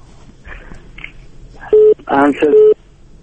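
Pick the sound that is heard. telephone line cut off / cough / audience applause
telephone line cut off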